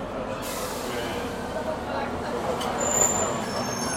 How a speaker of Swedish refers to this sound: Kom det en till buss här också. Är det där en flygbuss eller vad sa du? Nej, en buss.